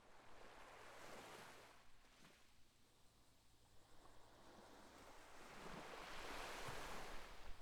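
ocean waves

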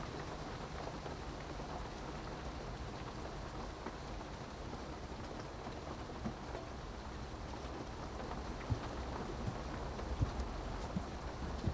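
rain falling

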